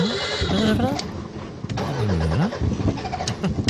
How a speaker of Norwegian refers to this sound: Ja, men så døde bilen.